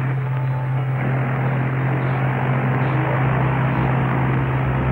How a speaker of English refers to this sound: Okay, you can move that airplane back out now. Yeah, we're finished with that now.